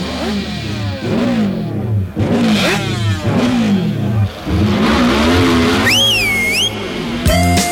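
A small engine revs up and down in repeated loud, whining bursts, like a moped being throttled, with a brief high whistling sweep near the end.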